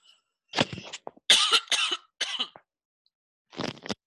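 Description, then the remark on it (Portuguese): A person with a cough has a short fit of hacking: several harsh coughs in quick clusters with brief pauses between bursts, and a final pair of coughs after a moment of silence. No one speaks. “Nossa, gente, desculpa aí, eu tô com a tosse.”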